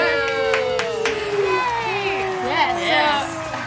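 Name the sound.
audience clapping and cheering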